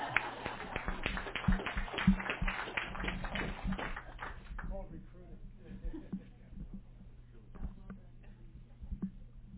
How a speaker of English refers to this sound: So give yourselves a round of applause right now.